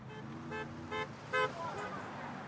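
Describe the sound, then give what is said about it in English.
Several car horns honk in short bursts at a street protest, three distinct toots rising in loudness over steady street noise, with a low murmur of voices in the background. “Honk for the youth!”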